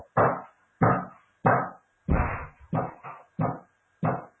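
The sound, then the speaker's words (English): Hammering: about eight heavy, thudding blows land in a steady, slightly uneven rhythm, each strike loud with a short ringing decay, and no voices in between. “Sounds like a lot of hammering going on.”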